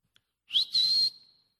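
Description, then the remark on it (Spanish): A person whistles a short two-part call, a brief rising note followed by a longer steady high tone that fades out, imitating a father's signature whistle heard from far away. No talking. “Ahora, eso quizás no quiere decir mucho para usted, pero para mí ese era el silbido de mi padre.”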